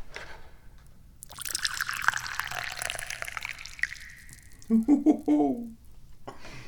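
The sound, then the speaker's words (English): Tea pours steadily into a cup for about three seconds, a splashy stream whose tone shifts as the cup fills. A brief voice follows after it stops. “And being the chairman of the Dubious Goals Committee, aparts upon me, many important responsibilities, including, but not limited to, pouring the tea.”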